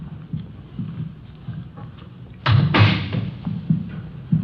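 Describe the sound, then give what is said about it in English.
A door is opened and shut, with a pair of sharp knocks and a brief rattle midway, amid soft shuffling footsteps and low room rumble. “I'll get the door.”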